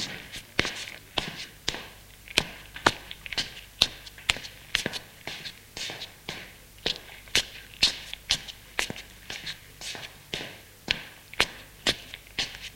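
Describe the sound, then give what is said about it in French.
Steady footsteps of people walking at an even pace on a hard floor through a maze of corridors, following a man. The steps are crisp and continue without a break over a quiet background hum, with no one speaking. “Ils se lèvent et le suivent dans un dédale de couloir.”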